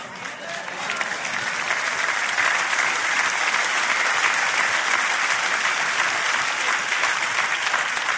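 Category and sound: crowd, audience applause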